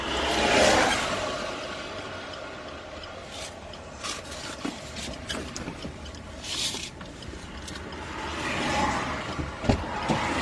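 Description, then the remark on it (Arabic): A steady, rumbling car engine drones on while the car is being repaired, mixed with occasional metallic clanks, scrapes and rubbing noises, with no one talking. “طيب كونوا معنا بس بعض الشيء عشان ننظر يمكن تتصلح السيارة يعني لأن احنا بنموت الآن.”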